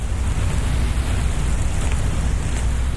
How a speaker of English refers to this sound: Those are earthworms. The worms are moving through the soil, and the little particles of sand are hitting against each other.